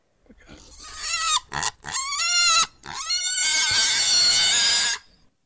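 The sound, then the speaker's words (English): A pig squeals loudly in several shrill, harmonic bursts, the last one a long sustained scream before cutting off. “Let's play your pig squeal.”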